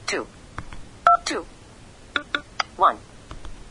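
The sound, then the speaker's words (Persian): A single short keypad dialing tone, a crisp steady two-note beep, sounds between brief bursts of a voice speaking, as a phone number is entered by double-tapping on a phone's touchscreen. “البته دو ضربه ای هم میتونه باشه، یعنی من میتونم همین شماره رو دو ضربه بگیرم. دو ضربه ای زدم.”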